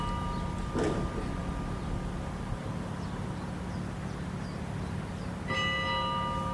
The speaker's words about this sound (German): Jetzt hören wir die Glocken.